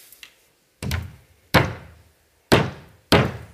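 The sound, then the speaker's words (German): Four heavy, resonant knocks with a lingering thud, struck at an uneven pace after a faint tap at the start, loud with no voices. “Das klopft, macht er so gut wie Urs Fischer.”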